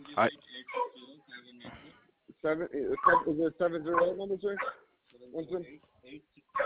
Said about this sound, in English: Hold on, your dog's too loud.